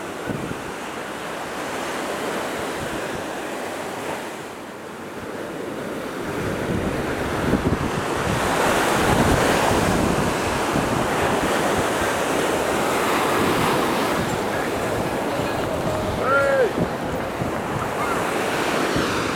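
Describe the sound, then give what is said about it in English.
Ocean waves roll in and break on the shore close by, a continuous rushing surf that swells louder midway, with steady wind buffeting the microphone and no voices. “The water almost just really got me there.”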